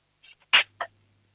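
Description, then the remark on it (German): About five or six forks are dropped on purpose into a cutlery drawer to make noise for a radio show: a faint tick, then one loud metallic crash followed by a second, smaller clank, all within about a second, with no voices. “dann nimmst du so 5-6 Gabeln und lässt sie so richtig schön reinscheppern in die Lade, damit dann haben wir ein bisschen Lärm hier im Radio, das ist auch immer toll.”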